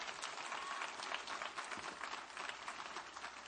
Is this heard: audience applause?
yes